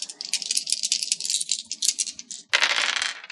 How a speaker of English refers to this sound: Then I will roll two dice for the hero and one die for Odious Grump.